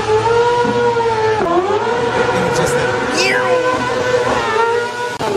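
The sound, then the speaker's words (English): A loud, high-pitched motorcycle engine whine holds steady for several seconds, dipping briefly as it shifts, as the motorcycle speeds past while lane splitting between lanes of traffic, heard from a car while driving, amid road and traffic noise. “I didn't even see the motorcycle.”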